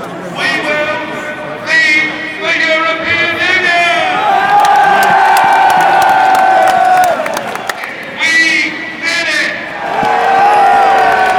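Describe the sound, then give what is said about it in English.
Hundreds of Brexit supporters packed at Parliament shouting, drinking and cheering together shortly before 11 p.m., a loud, dense roar of many voices with rising whoops and chant-like swells that continue throughout, energetic. “Hundreds of people shouting, drinking.”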